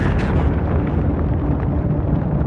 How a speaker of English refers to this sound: Yeah, there's 75 men around our building, and they're shooting at us in Mount Carmel. Mount Carmel? Yeah, tell them there are children and women in here and to call it off. All right. Hello? I hear gunfire.